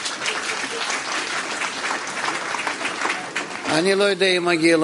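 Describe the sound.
A crowd claps steadily for several seconds for Mayor Lukshinsky, who has been asked to stand up, a dense, even patter of many hands, then a man starts speaking loudly as the applause dies away beneath his voice.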